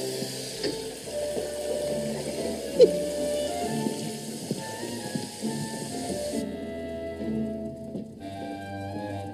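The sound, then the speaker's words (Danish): A steady hiss of water left running in a burgled house as the burglars' calling card pours continuously, then cuts off abruptly partway through, with low tonal music humming underneath the whole time. “You left the water running, didn't you?”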